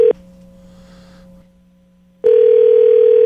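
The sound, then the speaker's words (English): A telephone ringback tone heard over a phone line while calling a burner phone: a loud, steady electronic buzz that cuts off, leaves a quiet pause with faint line hiss, then sounds again. “I do hear the rings on the connection.”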